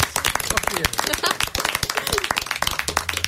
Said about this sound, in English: So we'll finish out with a big round of applause.